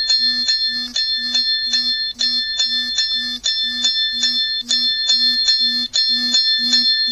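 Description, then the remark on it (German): A timer alarm, set for three minutes, rings when the three minutes are up in rapid, steady bursts of bright bell-like tones, each paired with a low buzzing vibration pulse, loud with no talking. “So, er vibriert und klingelt ganz heftig. Timer, 3 Minuten vergangen.”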